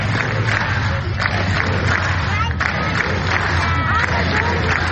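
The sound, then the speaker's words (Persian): Hundreds of Catalan protesters, gathered on a Tuesday in a square in a district in northern Barcelona, shout together that they voted, in a continuous, dense roar of many voices, with rising and falling chant-like bursts layered over a steady low rumble throughout. “این صدای تنها صدها تن از معترضان کاتالان است که روز سه‌شنبه در یک میدان در منطقه‌ای در شمال بارسلون گرد هم آمدند و فریاد زدند که رأی دادند.”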